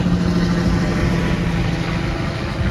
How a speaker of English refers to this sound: Oh, a little helicopter coming around. It's always something here in Antigua.